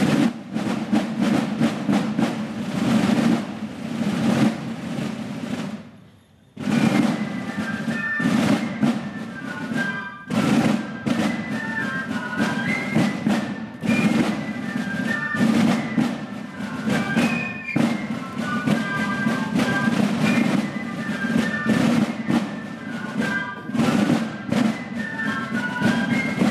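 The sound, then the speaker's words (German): The Gundeli Clique plays a new carnival march written for its 75th anniversary, shrill piccolos carrying a high melody over steady, dense snare drumming; the music stops for a moment early on, then resumes loudly without any talking. “da stechen doch ein paar raus und man bekommt auch Neues zu hören, wie zum Beispiel von der Gundeli klicken mit einem neuen Marsch, extra geschrieben zum 75. Geburtstag von der Gundeli klicke, der Gundolding.”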